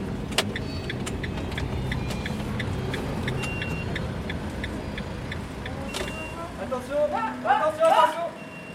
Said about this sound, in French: Donc ça, c'est le camion de la récup.